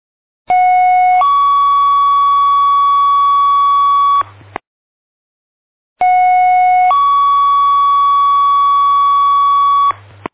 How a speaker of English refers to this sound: I want the tones one more time. Give me the tones. Tone out for the fire.